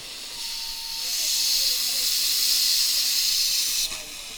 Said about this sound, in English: Volunteer John Hopkins uses a blowtorch to start a 1913 Stanley steam car.